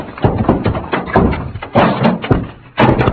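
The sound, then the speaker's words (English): Stacked heavy wooden packing cases topple over after Pancho bumps against them, in a loud, irregular cascade of crashes and thuds, several impacts piling onto one another for about three seconds, with no one speaking. The cases knock Pancho out and pin Cisco's leg. “Santos, those cases hit Pancho and knocked him out.”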